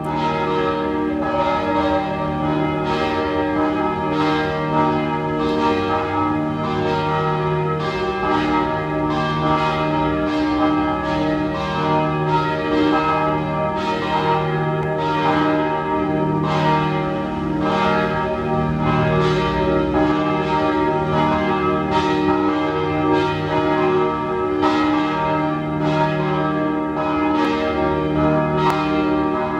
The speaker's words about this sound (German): 12 Uhr. Sie hören die Glocken der Pfarrkirche Penzing im 14. Wiener Gemeindebezirk.